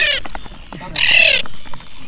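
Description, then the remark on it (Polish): Common tern chicks patter and scrabble across the bottom of a plastic bowl, their light taps mixed with bursts of shrill, high peeping, as they are transported from a platform in the middle of a pond. “W misce ogromne poruszenie, a wy, drodzy słuchacze, możecie usłyszeć tupot rzecznych rybitw od dna tejże plastikowej miski.”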